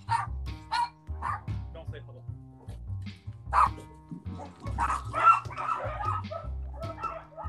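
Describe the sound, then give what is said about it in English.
A dog barks repeatedly inside a house, sharp irregular woofs mixed with a few higher yips, while people's voices murmur underneath. “dog just came in the house.”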